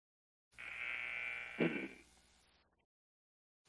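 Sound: basketball game buzzer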